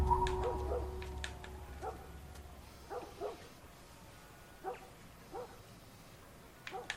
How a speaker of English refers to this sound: So there's a dog somewhere.